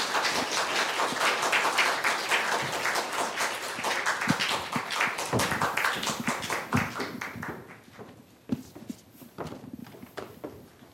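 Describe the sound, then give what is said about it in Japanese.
An audience at a church worship service claps steadily to welcome a guest speaker, a dense crackle of many hands that swells and holds for several seconds, then thins out to a few scattered claps near the end. “では拍手で。お迎えください。”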